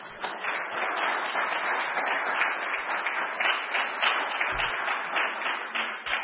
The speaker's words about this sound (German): Ich glaube, das hat auch einen Applaus verdient.